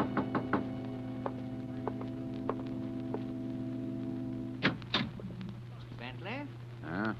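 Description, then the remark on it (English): A quick series of three sharp knocks on a door over a steady low hum, followed by a few scattered single taps, then a brief thud and a voice starting to speak near the end. “2 nights later, I was alone, and there was a knock on the door.”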